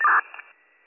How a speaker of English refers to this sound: 4660 Bravo, could you go again? That was static.